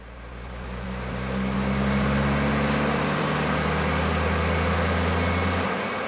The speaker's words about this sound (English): running monster seismic thumper trucks up here or any other kind of motor vehicles associated with oil and gas exploration will leave an indelible mark of mechanical human civilization in a place that doesn't seem to have seen any of that for eons.